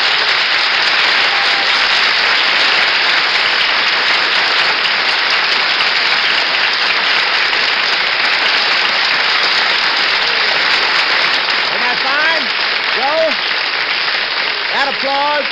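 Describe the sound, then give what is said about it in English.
A large studio audience applauds loudly and steadily for about fifteen seconds for New York Yankees World Series relief pitcher Joe Page, a dense wash of clapping, with a man's voice beginning to speak over it near the end. “That applause is for you, Joe, and I'll bet there are a lot of people sitting at their loudspeakers tonight applauding your great performances of the series.”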